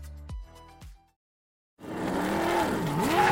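Two NASCAR race cars scream past in quick succession, their engine pitch dropping sharply, then after a brief silence a loud, steady engine roar rises and dips in pitch as it revs.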